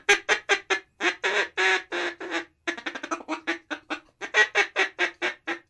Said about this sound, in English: Here they come, John. Yeah, here comes the ducks.